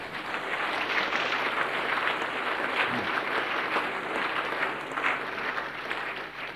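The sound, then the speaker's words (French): Sustained applause from an audience, a dense, steady wash of clapping that holds at an even loudness throughout without any voices standing out. “Et vraiment, de tout mon cœur, je voudrais leur dire merci. Applaudissez-les.”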